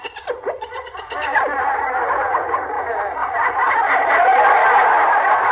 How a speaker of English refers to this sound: The chatter of the monkeys.